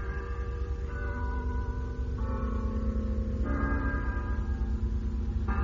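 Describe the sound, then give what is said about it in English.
A church bell tolls slowly, striking seven o'clock, each heavy strike ringing out with a long, humming resonance that overlaps the next, in a steady, measured rhythm with no voices. “It's 7 o'clock, Leo.”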